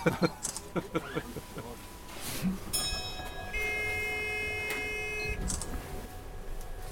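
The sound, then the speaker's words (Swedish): A signal bell aboard a small six-seat bus, sounding like an old tram signal, rings out with a steady, bright tone for about three seconds mid-clip, preceded by clattering knocks and followed by low background rumble. “Ja, det där låter som en gammal spårvagnssignal.”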